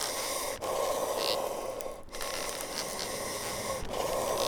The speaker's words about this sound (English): So it's the kind of wheezing bellows of a piano accordion and the clicking sound it makes as it goes backwards and forwards as the kind of paper accordion rests and stretches and contracts.